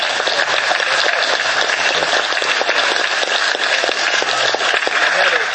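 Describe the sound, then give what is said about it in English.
Loud, dense clapping that keeps up steadily for several seconds, a continuous crackle of many overlapping hand claps with no clear pauses. “I want to give a good clap on that.”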